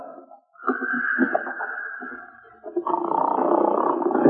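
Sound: man snoring loudly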